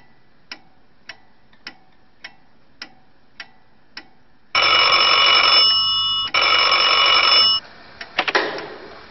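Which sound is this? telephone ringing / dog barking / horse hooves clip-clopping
telephone ringing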